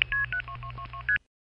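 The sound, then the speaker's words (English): A quick run of seven touch-tone telephone dialing beeps for a seven-digit number, each a short two-pitch tone, clipped close together and fairly loud, then silence. “I wonder how many tones that is.”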